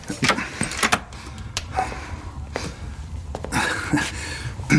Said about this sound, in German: Schließen Sie die Tür, setzen Sie sich zu uns und schenken Sie sich ein Tässchen Tee ein.